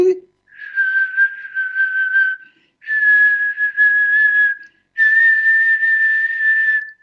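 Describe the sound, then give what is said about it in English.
Three long, steady whistled tones in a row, each held for about two seconds with brief pauses between, loud, the last one slightly higher in pitch. “You could do a whistle and go right to a specific organ.”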